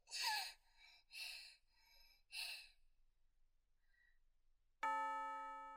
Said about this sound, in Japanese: チャイム鳴ってる。先生授業あるんじゃないの？